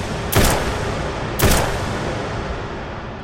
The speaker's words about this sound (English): The warden took aim at the closest inmate and fired three rounds into his heart.